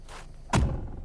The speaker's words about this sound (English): Put your legs in and let me close this door, for Christ's sake.